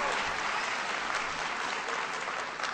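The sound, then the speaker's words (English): Sustained applause in Florida for Florida Chief Financial Officer Alex Sink. It is a dense, steady wash of many hands clapping at once, loud and unbroken for the whole stretch with no voices standing out. “Give Alex a big round of applause.”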